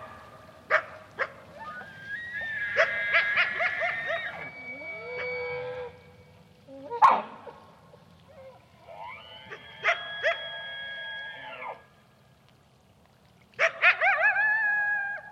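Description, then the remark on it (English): Loud alarm barks from several female animals threatened by a coyote, coming in repeated bursts: some short and sharp, others drawn out into strained, honking wails, with brief quiet gaps between volleys. “Females saw the coyote, were so threatened or unsure about it, they started giving this really loud alarm bark, which I'd never heard of.”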